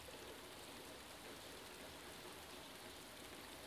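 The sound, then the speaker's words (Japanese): Steady rain falls continuously, a soft, even hiss of countless drops with no pauses or voices, sounding gentle throughout. “この雨はきっとあなたの涙。”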